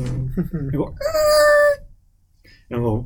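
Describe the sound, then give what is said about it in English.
A voice imitates the tire screech of a car braking at the last minute on the hill by the Quick Trip on 22nd: one loud, shrill, steady squeal lasting under a second, set between bits of talking and followed by a brief quiet pause. “Is it just me, or did the screech echo?”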